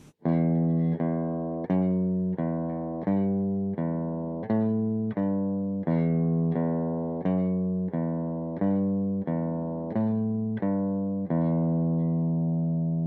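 A repeating guitar riff played as a steady run of low, sustained plucked notes, each strong attack ringing with bright harmonics, looping the same short pattern for about thirteen seconds with no voices.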